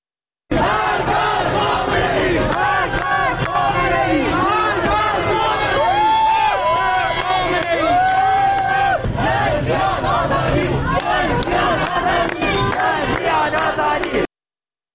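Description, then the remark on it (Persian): A large crowd of protesters who have blocked a street in Ilam by lighting fires shouts slogans in unison, including 'death to Khamenei': loud rhythmic chanting with many overlapping voices and rising cries, continuing steadily for about fourteen seconds over a constant roar of people. “در ایلام با شعارهای مرگ بر خامنه‌ای خیابون رو با افروختن آتش بستن و شعار میدن.”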